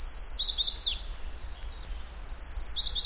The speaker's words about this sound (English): After two breeding seasons, Byers has recorded hundreds of these mate attraction songs for each of the 56 male birds in his study.